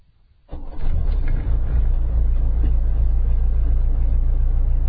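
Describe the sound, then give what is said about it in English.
After a moment of quiet, the diesel engine of a sedan, warmed first with glow plugs, cranks to life and settles into a steady, loud idle, a deep rumbling drone with an even, low pulse and no voices. “Listen to that engine purr.”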